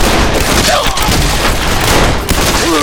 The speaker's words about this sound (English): He looked up to find four barrels pointed at him. When Sonny and Clyde burst out of their doors, Monty and Louis crouched and began to fire away.